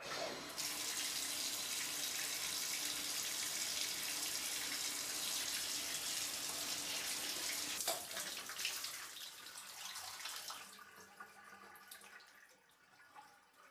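A shower runs steadily with a dense, hissing spray of water for about ten seconds, fairly loud, then tapers off and stops, during a safari stay in Africa. No one speaks.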